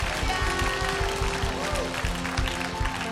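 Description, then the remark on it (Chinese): A church audience breaks into steady, dense applause offered to God that holds at a fairly loud level for the whole stretch, with a sustained musical tone and a few voices blending underneath. “还有，我们把一个掌声献给上帝。”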